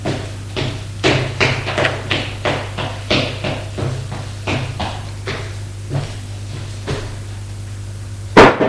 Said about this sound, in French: Frappe à la porte et le fait entrer.